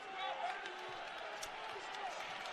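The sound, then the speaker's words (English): Subdued, scattered, uneasy applause from fans at a BYU versus OSU basketball game after a shot clock violation, a steady wash of clapping and murmuring voices with a few sharper claps and squeaks cutting through. “Now the fans, you can sense the uneasy applause.”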